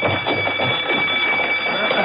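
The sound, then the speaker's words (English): Emergency alarm bells, sounded as a general call, ring throughout a training center without pause for the whole stretch: a loud, steady clangor with a sustained high, piercing tone running through it and no break in the rhythm. “A few moments after that, bells rang throughout the center, followed by the sounds of running feet as the men rushed to the main hall for instructions.”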